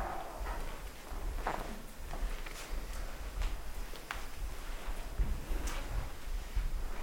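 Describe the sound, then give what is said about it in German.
Soft, irregular footsteps move through a room, each step a muffled thud over a steady low rumble of background noise, with no voices. “Mach noch ein paar Schritte durch den Raum und nimm wahr, wie die Arme und Schultern sich am Gehen beteiligen.”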